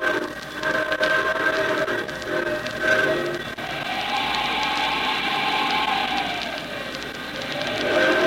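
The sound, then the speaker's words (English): A fur train loaded with valuable cargo rumbles steadily along in Canada on a cold January morning, battling wind and snow on a slow trek to Montreal, while a howling wind rises and falls over it in slow, whistling sweeps, the whole scene loud and continuous with no voices. “On a cold January morning, a fur train loaded with the year's most valuable cargo is battling the wind and snows on a slow trek from the northwest across the country to Montreal.”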